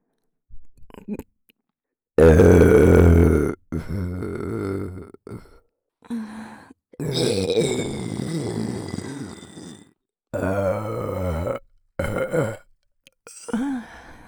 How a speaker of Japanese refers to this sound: ゲップからも逃げるな。